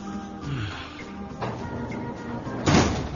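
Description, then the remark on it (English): A door is pushed shut, ending in a solid thud near the end, with a softer knock earlier over a low steady hum. “It's drafty with the door open.”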